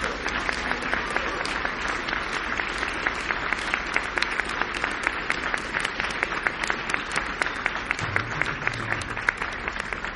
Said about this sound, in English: So we could not have done this without all of you guys. So church, if you would please give them a round of applause.